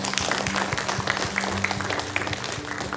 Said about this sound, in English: Amen. Let's give the Lord a hand clap of praise.